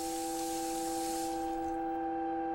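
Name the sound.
water running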